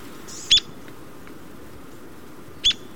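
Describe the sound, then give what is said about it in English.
Two sharp, high-pitched call notes from a small North American woodpecker with a white and brown cheek and heavily marked white underparts, spaced about two seconds apart, ring out clearly over a soft, steady outdoor background hiss. “These small woodpeckers forage by flying to the base of a tree and then spiraling up the trunk.”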